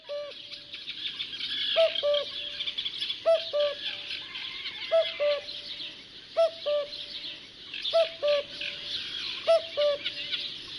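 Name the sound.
common cuckoo calling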